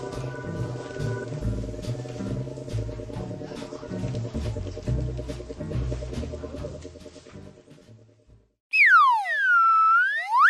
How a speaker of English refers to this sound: Hear that? That's the sound of a high-quality, handcrafted slide whistler slide whistle from Kazoos and Stuff.